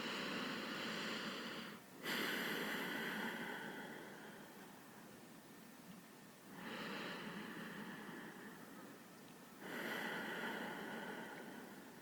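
Slow, deliberate breaths: three long airy inhales through the nose rising in sequence, each trailing off into a softer exhale through the mouth, with no voices in between.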